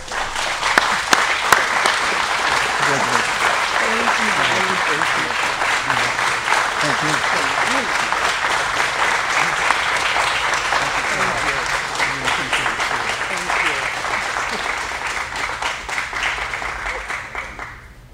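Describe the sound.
Sustained audience applause for nearly twenty seconds at a ceremony celebrating 16 years of Navy service and a lifetime dedicated to veterans, a dense, steady wash of many hands clapping at once, with faint voices and murmurs mixed underneath before it tapers off.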